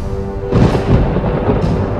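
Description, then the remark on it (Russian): A deep roll of thunder breaks in suddenly after a quiet hum and keeps rumbling heavily and loudly, with no voices present. “Слышишь, в безоблачном небе грохочет гром, и молнии сверкают из голубизны.”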